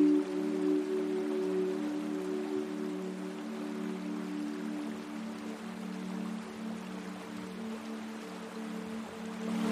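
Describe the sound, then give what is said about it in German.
A soft, steady trickle of water splashes in the distance as a small wooden boat drifts along a river, continuous and unbroken, with a low sustained hum underneath. No voices. “Da hörst du von weitem ein Plätschern und siehst, wie ein kleines Holzboot auf dem Fluss entlang treibt.”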